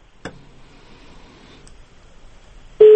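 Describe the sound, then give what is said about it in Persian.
A telephone line from a caller phoning in to Radio Azadi from Takhar province goes quiet after a sharp click, then a loud, steady busy tone cuts in abruptly right at the end as the call is cut off. No one speaks. “تلفن متاسفانه قطع شد.”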